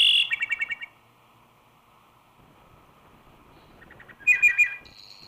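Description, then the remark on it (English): A wood thrush sings two clear, flute-like phrases separated by a pause, each a quick run of bright whistled notes ending in a trill, heard alone against a quiet, faintly rustling hardwood forest background in the eastern United States. “its song is the signature note of the magnificent hardwood forest, one that rouses the forest community each morning and puts it back to sleep again, pronouncing a benediction on each spring and early summer evening.”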